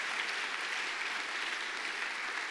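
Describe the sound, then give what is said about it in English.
An audience claps their hands in the morning to praise God, many hands clapping at once in a dense, continuous wash of sound that holds an even level throughout with no talking. “Would you clap your hands under the heavens this morning?”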